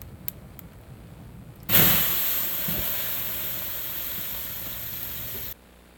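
A sudden loud burst of sizzling hiss as water is poured onto a burning cooking fire while dinner is being made, holding steady as a broad, crackling steam roar for about four seconds before cutting off abruptly.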